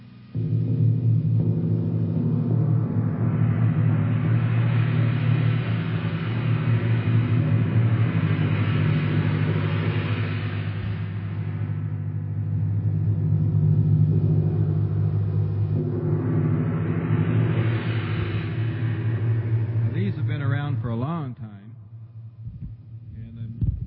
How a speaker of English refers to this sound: Okay, we're going to demonstrate a normal Rangoon gong.